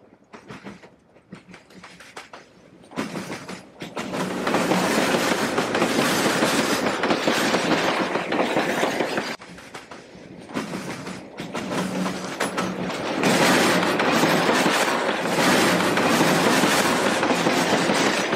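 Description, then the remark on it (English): Heavy spoil-train freight wagons roll past on a spoil line near Zibolizan, a loud sustained rumble with rhythmic clickety-clack and metallic clanks rising after a quieter start, continuing steadily with no one speaking. “Currently, 3 spoil lines are in use and 3 have been closed down.”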